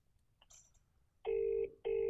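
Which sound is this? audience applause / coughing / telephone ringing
telephone ringing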